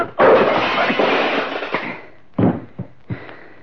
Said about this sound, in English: Knocking you down doesn't give me any satisfaction at all.